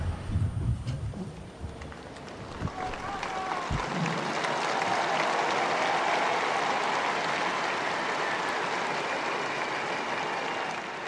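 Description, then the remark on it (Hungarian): A large crowd of pilgrims breaks into sustained applause, thanking Pope Francis for his teaching and blessing, a dense, steady wash of clapping that swells after a few seconds and holds strong, with murmured voices mixed in at the start. “A zarándokok sokasága a mai napon is tapssal köszöni meg Ferenc pápa tanítását, áldását.”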